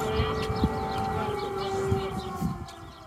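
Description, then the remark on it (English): A steady, droning air raid siren wails continuously in Ukraine during a massive wave of Russian strikes, its sustained tone hanging over faint street noise and occasional thumps. “Check out how people react to the siren.”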